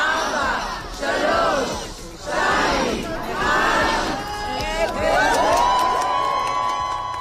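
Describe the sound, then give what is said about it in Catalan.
A large crowd in Hostages Square, Israel, shouts a countdown in a series of loud, rhythmic chants as the square's clock is stopped, then breaks into sustained cheering with a high whistle-like tone rising over the roar. “I ho ha fet davant d'una multitud que ha fet el compte enrere.”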